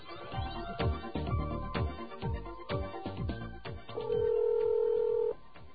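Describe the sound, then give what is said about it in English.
Touch-tone phone dialing while calling a phone-bill account information service and entering a phone number: a quick run of clicks and short electronic tones, then a longer, steady beep held for about a second, heard over a phone line with no talking. “In fact, what I'm going to do right now is show you what happened when we tried calling this particular service and entering the phone number here at WBAI and other places.”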